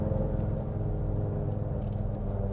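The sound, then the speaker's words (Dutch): A Ford F-150 Lightning, a large American electric pickup truck, drives by with a steady, low humming rumble that holds an even level for a few seconds, with no voices over it. “Minder indrukwekkend is het geluid. Nee, ja. Maar ja, hij is ook elektrisch. De Ford F-150 Lightning, heilige schennis.”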